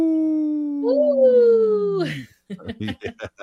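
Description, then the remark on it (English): A long, sliding howl lasting about two seconds, loud, seemingly a human voice imitating a wolf, for Howling for Wolves on Native Roots Radio, followed by a short burst of chattering voices or laughter. “We are Howling for Wolves right now.”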